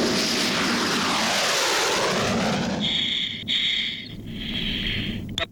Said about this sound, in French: Juste après l'explosion, les avions vautours de l'escadron noir sont envoyés à l'intérieur du nuage pour effectuer des prélèvements de particules radioactives. Des échantillons des produits de l'explosion sont recueillis dans le nuage même.